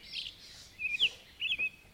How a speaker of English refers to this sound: we're listening to a chorus of birds who were singing at the crack of dawn at around 5 a.m. near my home in Greene County, New York, on the longest day of 2022.